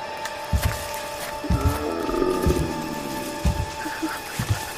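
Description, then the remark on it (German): A large animal growls and snarls close by in low, rumbling bursts, with a drawn-out roar-like growl in the middle, over a steady tonal background hum. “Ich glaube, da ist dieser Wolf. Oder was es auch immer ist.”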